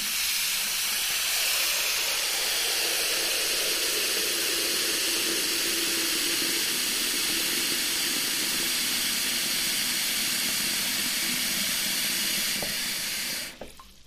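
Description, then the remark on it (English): Water gushes steadily from a tap into a kitchen sink as the sink is filled up, a constant hissing rush that stays even for several seconds before cutting off abruptly near the end. No one speaks. “So, of course, we're going to fill up the sink.”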